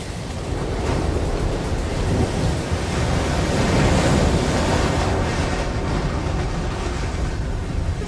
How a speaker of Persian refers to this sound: اونجا رو آب داره میاد.